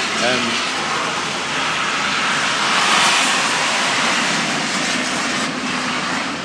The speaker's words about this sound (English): I think a jet just went past. Sorry about that.